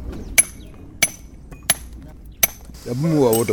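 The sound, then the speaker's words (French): Four sharp, evenly spaced hammer blows ring out on a large chisel point against granite as apprentice sculptors shape their works, each with a bright metallic ping, before a person starts speaking at the end. “les autres apprenants façonnent leurs œuvres avec les marteaux et de grosses pointes.”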